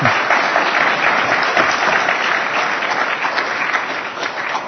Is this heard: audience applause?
yes